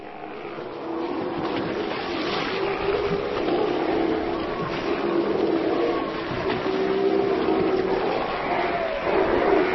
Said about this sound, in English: We pull out here. We see about 60 sea lions gathered on Lesnoy, and they are loud.